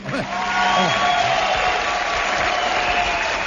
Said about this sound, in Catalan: És el final de l'últim capítol? Sí. Últimament és el final. No he enganyat a ningú. No. Són gent aplaudint. Exacte.